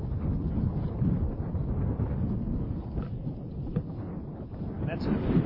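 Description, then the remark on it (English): Wind howls and buffets steadily throughout at a baseball game, a loud, low roaring rumble that never lets up, with a few faint higher flickers riding on top. “As you can hear, the wind continues to howl here.”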